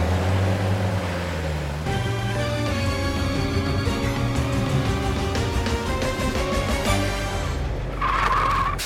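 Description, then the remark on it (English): A large Super Carrier Truck, carrying cars on its platform, drives up to Tom's garage with a steady, loud engine rumble that shifts in pitch as it approaches, ending with a brief screech of tires as it pulls in. “Super carrier truck and Tom arrive at the garage again.”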